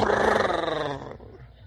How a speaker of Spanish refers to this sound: Y dice él todavía, yo no ronqué. Ja, te hubieras oído.